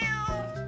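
A single cat meows clearly, a short tonal cry with rich harmonics that holds steady and then tails off, with no speech.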